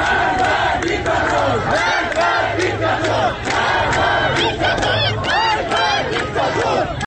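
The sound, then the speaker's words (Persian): A large crowd of protesters chanting together in the street in Sanandaj, western Iran: a dense, continuous roar of many voices with rhythmic surges, loud and sustained throughout with no quiet gaps. “این صدا هم از سنندج هست.”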